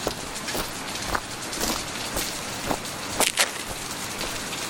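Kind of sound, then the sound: nature, heavy rain falling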